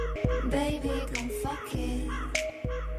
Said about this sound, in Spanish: Los cuervos de la Torre de Londres viven a cuerpo de rey, pero eso sí, se les cortan las plumas remeras, por si acaso.